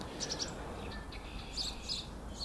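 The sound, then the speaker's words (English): Sparrows, including a tree sparrow and white-throated sparrows about 10 feet away on the ground by a thicket, chirping in short, high-pitched bursts, a quick run of three chips followed by scattered brighter tweets, moderately loud over a steady low background rumble. “Oh, there's a tree sparrow right there.”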